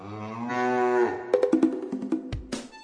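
A cow in a herd being driven down a sloping riverbank to drink lets out a long, low, drawn-out moo, fairly loud, followed by a string of short choppy bursts of sound with no one speaking.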